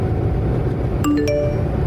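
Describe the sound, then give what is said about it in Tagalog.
A phone notification ding rings out twice in quick succession, a bright two-note chime that rises clearly above the steady low rumble of a car interior while the car is being driven, with no talking. “Uy, mamaya na phone mo.”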